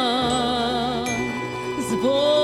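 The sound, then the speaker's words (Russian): Church bells ring out loudly with rich, sustained overtones, a fresh strike landing partway through as the tones hum and overlap without any voices. “Звон колоколов, царьушка державная, аромат пирогов”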